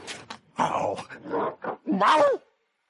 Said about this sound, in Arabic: لن تهرب مني أيها الكلب. هاي انتبه. آسف أيها الكلب، لكنه القانون.